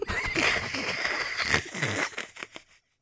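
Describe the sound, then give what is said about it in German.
A person imitates a donkey's bray, a loud, strained hee-haw rising and falling for about two and a half seconds before trailing off into silence. “Das konnte man bei einem Esel richtig gut vorstellen.”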